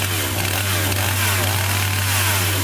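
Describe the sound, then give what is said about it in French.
A chainsaw roars, its engine buzzing loudly and steadily for a few seconds with slight rises in pitch, like a motor being held at high revs. “Il manque juste la tronçonneuse, justement.”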